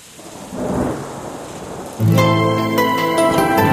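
Steady rain hisses with a low, rolling rumble for a couple of seconds, then music abruptly begins and plays loudly over the continuing downpour.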